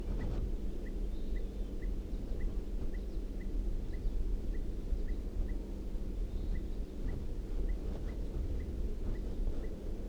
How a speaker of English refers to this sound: And I think I hear a crossbill. I think I did hear a crossbill calling. I do hear a type 2 crossbill calling from down the hill.